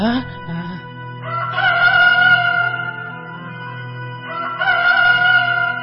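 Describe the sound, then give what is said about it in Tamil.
A rooster crows loudly, two long, drawn-out cock-a-doodle-doo calls following one after another with a low steady hum beneath them. “சேவல் கூவுமுன் நீ என்னை மும்முறை மறுதளிப்பாய்.”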